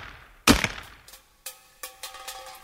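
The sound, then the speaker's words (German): A single sharp, loud rifle shot cracks out at a tin food can, fired to try to shoot it open. Several lighter metallic clinks and rattles of the can follow, each leaving a brief ringing tone. The can does not open. No one speaks. “Vielleicht haben die Soldaten sie ja mit einem Gewehr aufgeschossen.”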